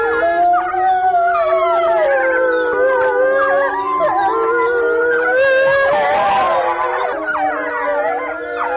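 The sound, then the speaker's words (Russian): A pack of four adult wolves and four pups at the Novosibirsk Zoo howls together after the zoo's closing, long overlapping wavering tones rising and falling, with higher-pitched yips and whines from the pups mixed in, loud throughout. “Вот конкретная пара, которая была записана, 4 взрослых животных и 4 детеныша в новосибирском зоопарке, они практически всегда выли после закрытия зоопарка”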